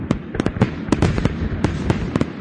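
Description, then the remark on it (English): A rapid string of sharp firecracker bangs pops off irregularly, about a dozen loud cracks in quick succession over a continuous crackling background, with no voices. “Fire off a gun or light a firecracker.”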